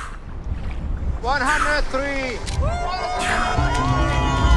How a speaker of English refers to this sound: The crew applauds. The last safety diver slaps the water's surface.